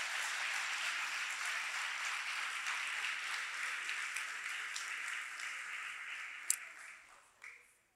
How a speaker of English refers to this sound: Okay, great. Let's give a round of applause to our volunteers for the amazing show of something.